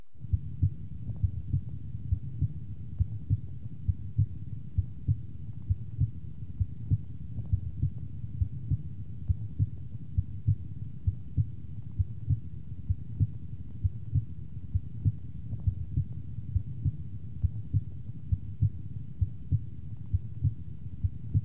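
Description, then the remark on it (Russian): Normal heartbeat heard through a stethoscope over the pulmonic area, the second intercostal space left of the sternum: steady, evenly spaced lub-dub beats, low and muffled, with a soft background hum and no voices. “В третьей точке аускультации, во втором межреберье, слева от грудины, соотношение тонов сердца такое же, как и над аортой.”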